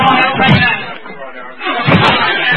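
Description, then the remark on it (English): Two heavy, booming crashes about a second and a half apart as a locked door is forced in, loud, with muffled voices and commotion around them. “All right, everybody, we've got to break that door in.”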